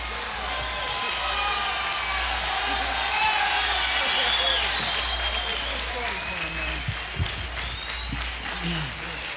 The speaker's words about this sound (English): Thank you. Thank you very much, ladies and gentlemen, for your kind applause.